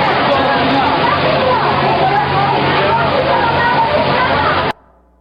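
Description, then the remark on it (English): A loud, continuous roar of rushing tsunami floodwater, a wall of water about 10 feet (3 metres) high covering an island, surges steadily for about five seconds, with a churning, sloshing texture and faint voices mixed in, then cuts off abruptly. “It was just this gush of 10-foot wall of water, and it would just take people away.”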